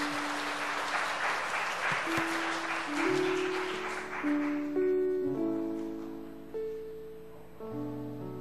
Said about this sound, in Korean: 박수 한번 해주십시오.